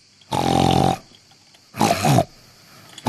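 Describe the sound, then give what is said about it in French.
A human voice imitates a pig with two loud, harsh grunts, the first drawn out for most of a second, the second shorter after a brief pause, with no talking. “Je suis le cochon.”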